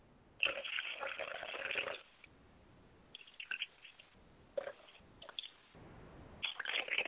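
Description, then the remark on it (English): Water is poured out onto the ground as a libation in several separate splashing bursts, a longer pour first and then shorter ones, hissing and spattering as it hits the ground. “Ladies and gentlemen, it's very important that we do not come before the Creator with a stale face, and we purify our hands so that when we pour water to the ground, the water becomes sanctified, and the water has no enemy.”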